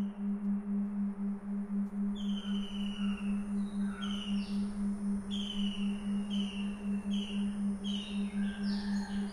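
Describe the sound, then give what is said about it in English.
Birds chirp and call repeatedly in quick, high, descending notes that overlap throughout, with a steady low electrical-sounding hum running underneath the whole time. “All these birds communicate right now by making sounds.”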